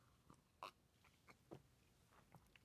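Soft sipping of coffee: a handful of brief slurps and swallowing clicks spaced irregularly over a few seconds, with no talking.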